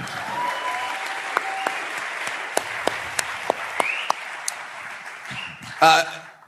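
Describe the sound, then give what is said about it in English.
A crowd in a sanctuary applauds steadily for several seconds to thank visiting local newspaper reporters and a photographer, a dense wash of clapping punctuated by sharper individual claps, with faint voices murmuring underneath and a brief louder burst near the end. “You can clap, please.”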